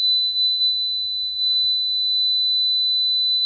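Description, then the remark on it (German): A steady, high-pitched pure sine tone holds unbroken at one pitch for the whole stretch, thin and piercing, with faint low rumble and a soft rustle beneath it. “Ist ein reiner Sinuston, eben seelenlos, aber das ist eine reine Sinusschwingung, eine Einzelfrequenz.”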